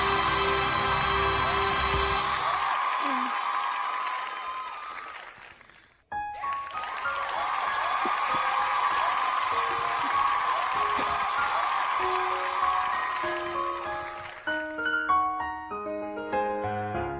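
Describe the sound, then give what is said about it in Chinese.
An audience claps steadily for several seconds to welcome a singer's next performance, the applause briefly dropping away before swelling again with cheering, then a few piano-like musical notes come in as it fades. “嗯，好 ，OK， 来，咱们 掌声 继续有请。”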